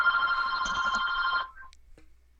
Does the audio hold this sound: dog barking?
no